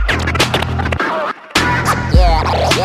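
Turntable scratching over a steady, loud beat, with rapid back-and-forth sweeps in pitch. A brief near-silent gap interrupts it before the scratches and rhythm resume.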